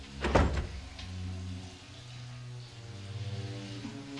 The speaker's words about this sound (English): He re-emerges, carrying a mop and pail, and slinks over to cabin number one. Going in, he closes the door behind him and pauses deliberatively in the dark.